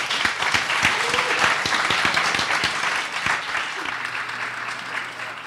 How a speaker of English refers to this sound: All right, we are going to stop there. But all of you, round of applause for the panel.